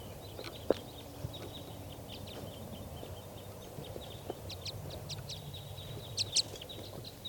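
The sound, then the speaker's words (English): A flock of wild birds in trees calls with many short, high chirps and twitters scattered throughout, a couple of sharper bright notes standing out over a low steady background rumble. No one speaks. “So recording, the wild birds.”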